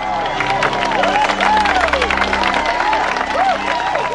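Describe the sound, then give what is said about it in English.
A crowd claps steadily as a group, dense applause mixed with cheering and whistles, over a sustained musical backdrop that runs beneath the noise. “Megan slowly claps along with everybody else.”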